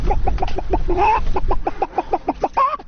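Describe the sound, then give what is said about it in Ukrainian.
A tall grey-haired man on a street imitates a hen clucking for children gathered around him: a quick, steady run of short throaty clucks, broken twice by a longer warbling cackle, with no other talk. “А котра яйчка снесла?”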